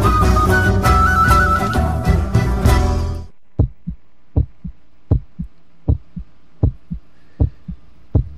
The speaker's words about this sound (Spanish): Se nos escucha ahí el corazón, ahí el latiendo desde el Valle de Punilla, las sierras cordobesas.